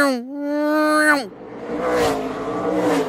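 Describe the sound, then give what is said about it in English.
A voice imitates a NASCAR race car's V8 engine, a loud, steady buzzing roar that holds then drops sharply in pitch, followed by a rougher, noisier rumble fading away. “So to go to the other extreme, like I'm thinking like NASCAR, and it sounds like...”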